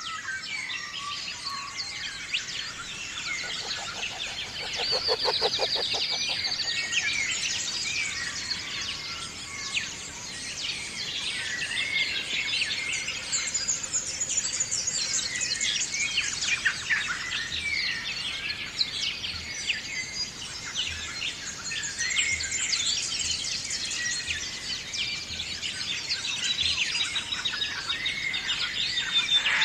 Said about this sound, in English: Imagine you're in Australia, west of Melbourne, in the Grampians, a nature preserve run by indigenous peoples. It's dawn, and we're surrounded by many animals, including kangaroos. Here's a dawn chorus of mostly birds.